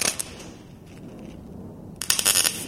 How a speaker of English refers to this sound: The sounds of welding, cutting, and bending metal combine with the noise of the airplanes that pass overhead.